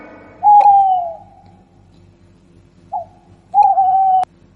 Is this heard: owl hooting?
yes